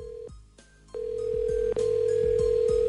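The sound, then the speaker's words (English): A phone's ringback tone on an outgoing call: a short steady beep, a brief pause, then a longer sustained ring tone, fairly loud and clear, with faint clicks underneath and no voices. “Can you just guys call him and find out for me? Yeah, we can do that.”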